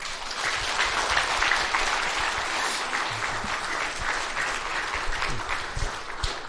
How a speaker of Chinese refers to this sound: 咱搁一边感谢，用我们的掌声